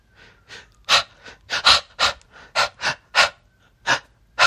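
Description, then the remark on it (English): A person breathes rhythmically and quickly, with about a dozen sharp, airy breaths in a steady panting pattern, fairly loud, with no talking. “That's me, breathing rhythmically.”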